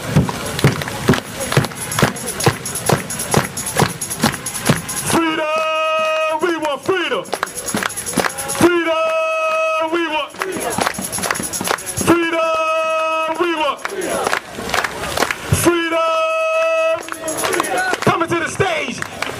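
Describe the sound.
A crowd claps in a steady, loud rhythm, the sharp beats running throughout while bursts of chanted voices, 'Freedom, we want freedom', rise over the clapping in repeating phrases.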